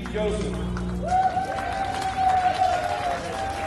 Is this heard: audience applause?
yes